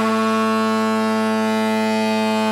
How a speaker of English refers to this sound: I don't like to, intrude on the edit of this, but if you could just play the foghorn just now.